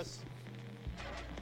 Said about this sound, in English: Oh, static.